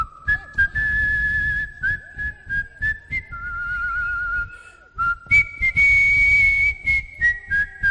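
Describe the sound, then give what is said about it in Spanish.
Someone whistles the short, catchy advertising jingle of the Sportium sports betting company, clear sustained notes stepping up and down in pitch, accompanied by a steady rhythmic thumping underneath. “que me encanta como silbas la melodía de Sportium.”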